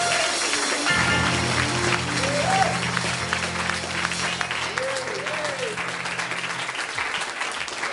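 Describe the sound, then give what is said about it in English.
A large crowd at an evening worship service bursts into sustained, dense hand clapping in praise of the Lord, with voices and scattered cheers mixed in beneath the applause as it carries on steadily for several seconds. “Can you give the the Lord a hand clap of praise this evening.”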